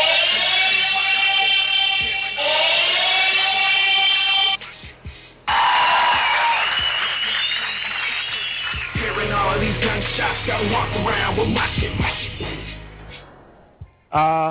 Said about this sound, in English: Hearing cries from the sirens.